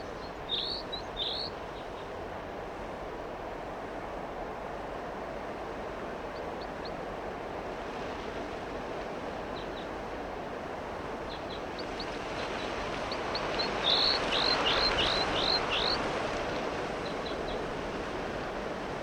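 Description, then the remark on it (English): A bird identified as 4-3 gives sharp, high-pitched calls, a short pair at first, then a quick burst of loud repeated notes, all over a steady roar of blowing wind. “The wind is blowing pretty much, and 4-3 is calling quite loudly.”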